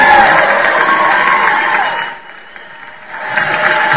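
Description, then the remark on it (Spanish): An audience claps and cheers on a radio program for a listener who won a prize, in a dense, steady burst that fades briefly to a lull midway, then swells again with renewed applause. “Otro aplauso, por favor, señoría.”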